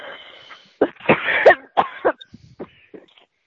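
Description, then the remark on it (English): A string of several harsh coughs in quick bursts, followed by a few softer, raspy throat-clearing sounds trailing off, with no talking. “just coughing.”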